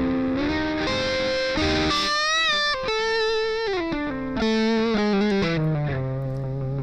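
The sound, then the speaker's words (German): A distorted electric guitar played through a digital multi-effects unit plays a melodic line with bends and sustained notes. Its tone is thick and saturated, and the distortion eases when it is played softly. Loud, with no voices. “Die Verzerrung geht runter, wenn der leise spielt.”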